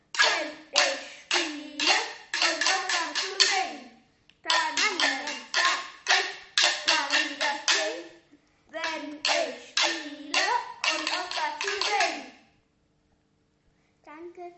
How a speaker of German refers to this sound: Die Eule hatte einen großen Zapfen und einen Ast mitgebracht. Mit dem Ast rieb sie vorsichtig über den Zapfen und sang dazu. Tannenzapfen, hört mal, wie das klingt.